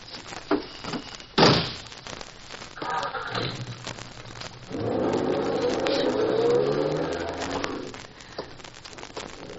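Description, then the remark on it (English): A car driven by a man wanted by the FBI, Ohio license number 12412, approaches and passes by, its engine swelling to a steady roar before fading away, after a sharp knock or door-like thud near the start; no one speaks. “Officer, the man that just drove by in that car is wanted by the FBI.”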